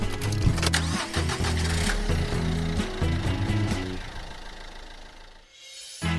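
car engine starting

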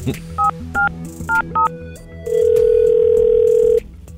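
telephone dial tone

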